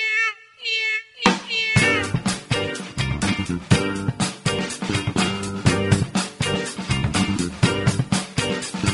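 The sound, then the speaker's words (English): A few cat meows sound alone at first, then loud, repeated meowing continues over a steady, thumping rhythmic beat, as if the cries are set to music. “Who brought the cats in?”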